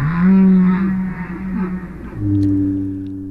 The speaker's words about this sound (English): These are the sounds of humpback and blue whales off the coast of California. Every year, these gentle giants migrate up and down our coastline, but they share the water with something less gentle.